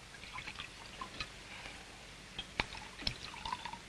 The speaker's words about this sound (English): He hands them each a tumbler, pours them a shot of whiskey, then raises his glass.